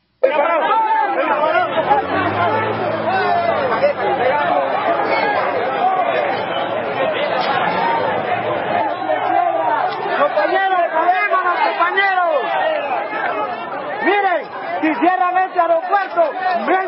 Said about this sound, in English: They booted him out of the country, and some of the people in Honduras, none too happy. Here's what some of the crowds sounded like over the weekend.